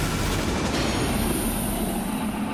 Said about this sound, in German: Über 60 Tonnen Gewicht, 1500 PS. Motor an für den Leopard 2A7V.